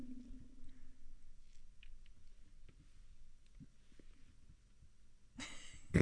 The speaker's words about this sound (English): I was just trying to hold back a yawn. That was really hard to was do. Is that what that was? That's what that was. Huh. I was trying to hold back a yawn.